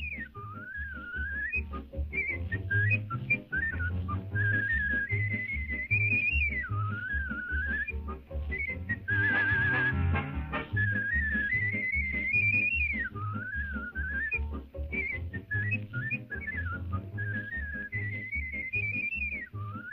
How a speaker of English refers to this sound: I'm not going to play the whole thing, but here's what he sounded like when he whistled. So it's pretty amazing, really.